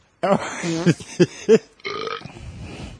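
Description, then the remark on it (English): A comic flatulence sound effect played from a sound effects board, with a burp-like quality: a few loud, croaky blurts in quick succession, then a drawn-out sputtering tail. No one speaks. “That sounded like a butt burp.”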